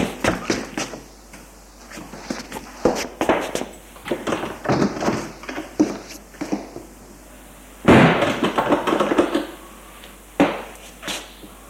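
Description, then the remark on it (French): A door is unlocked with a key, worked open and then shut, with a run of scraping, rattling bursts and a heavy, loud slam partway through, followed by a final sharp knock. “S'est ouverte et refermée.”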